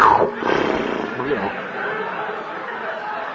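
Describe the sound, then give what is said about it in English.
A voice imitates heavy breathing as a joking counseling technique dubbed "Jabba the Hutt counseling": a loud, rough, breathy rasp that swells at the start and then settles into a steady, noisy exhale lasting a few seconds. “It's called heavy breathing.”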